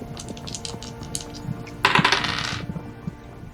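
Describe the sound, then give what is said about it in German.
Dice, rolled for a perception check, rattle and clatter across a hard tabletop, starting with scattered light clicks and swelling into a brief, bright tumbling burst before settling. Moderately loud, with no talking. “Würfel bitte auf Wahrnehmung um 20 erleichtern.”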